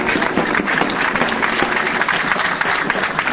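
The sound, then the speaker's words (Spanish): A crowd applauds steadily in tribute to Osvaldo Río, a comrade in the struggles of the workers of the central, a dense wash of many hands clapping at once, loud and sustained throughout with no pauses or voices standing out. “Así que un aplauso muy fuerte a este entrañable compañero de luchas de los trabajadores de la central.”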